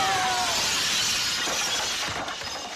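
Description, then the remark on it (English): A glass-shattering sound effect, standing for somebody jumping out of a second-floor window: a loud, bright crash followed by a sustained spray of tinkling, ringing shards that slowly thins out over a few seconds. No voices are heard. “Yeah, somebody jumping out of a second floor window.”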